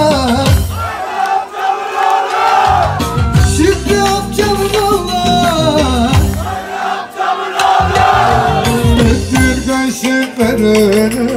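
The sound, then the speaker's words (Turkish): A loud audience of men cheers and shouts together, their voices blending into a sustained, rousing roar that swells and dips but keeps going for the whole stretch. “Vallahi bayanlar, erkekler biraz başarılıydı.”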